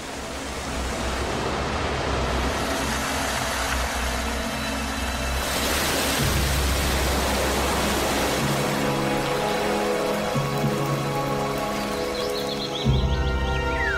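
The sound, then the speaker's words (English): Heavy rain rushes down in a steady, dense roar that fills the whole scene for the entire stretch, with a faint low rumble underneath and no voices. “the rain, which rushes down in countless waterfalls.”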